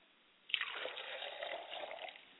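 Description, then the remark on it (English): Water is poured onto the ground as a libation to the east in a steady stream, starting abruptly with a splash and continuing as a sustained splashing pour for about two seconds. No one speaks. “And as I pour libations to the east, I say, Ashe.”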